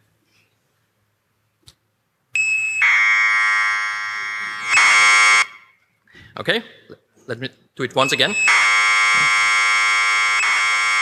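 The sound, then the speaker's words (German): Computer data from a tape played back in an audio tape player: a harsh, steady, buzzing screech with rich overtones, loud in two long stretches, interrupted briefly by a person speaking. “So audio data, you can take such a tape, put it into an audio tape player and listen to it. And it will sound like this.”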